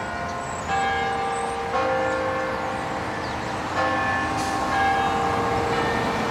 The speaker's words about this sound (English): In Washington, D.C., at the Basilica of the National Shrine of the Immaculate Conception, the bells were tolled 95 times to commemorate Pope Benedict's passing, and the entrance draped in black bunting as a sign of mourning.